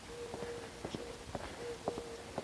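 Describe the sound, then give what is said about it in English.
About half a dozen mourning doves in the neighborhood coo in low, soft, steady hoots that overlap one another, while a series of sharp footstep-like taps sounds over them at an uneven pace. No one speaks. “The neighborhood is alive with mourning doves hooting.”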